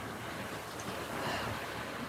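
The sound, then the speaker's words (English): Steady ocean waves wash in near a lighthouse, a broad continuous surf roar with gentle swells, mixed with some wind rush and no talking. “I hope you can hear the waves.”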